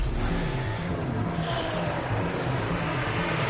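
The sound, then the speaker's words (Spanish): A loud, steady engine roar fills the whole stretch, a racing motor droning with a deep rumbling hum and layered whine, with no voices present. “Vuelve el rugido a nuestras vidas.”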